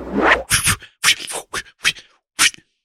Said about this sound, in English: There we go. Got it all tied up. Why do you have to tie it up and then zip it? Just zip it. Did you add new straps? I think that's the string tightening.